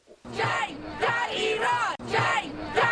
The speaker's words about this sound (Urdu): Tehran میں سینکڑوں مظاہرین حکومت کے خلاف نعرے لگاتے ہوئے اور شفافیت کا مطالبہ کرتے ہوئے تہران کی شریف ٹیکنیکل یونیورسٹی کے باہر اکٹھے ہوئے.